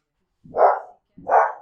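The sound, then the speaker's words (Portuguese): A dog barks twice, two full, fairly loud woofs with a short pause between them, heard on their own with no talking. “"Eu não", disse o cão.”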